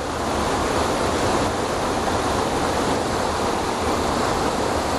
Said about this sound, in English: And there's lovely spray coming off this waterfall.